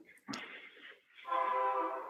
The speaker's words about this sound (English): I have a train going by, but I'll go on. Actually, I think I'm gonna have to wait for this train. I live about a block from tracks that go right through our neighborhood.